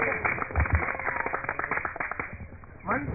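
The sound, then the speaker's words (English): A couple of quick hand claps ring out close by, followed by indistinct voices murmuring in the background. “And all the Sakhis were clapping like this.”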